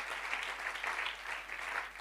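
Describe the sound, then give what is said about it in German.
A crowd claps steadily throughout for the team, a dense, continuous wash of applause from many hands, fairly loud, with no voices standing out. “Round of applause for our team as well.”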